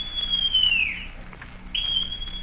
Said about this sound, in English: Then Silver brought out a whistle.